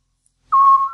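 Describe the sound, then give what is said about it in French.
A scops owl, a small owl no bigger than a blackbird, gives a single clear, whistled note, a steady mid-pitched tone that starts abruptly after a moment of silence and holds for about half a second before fading. “Le petit duc.”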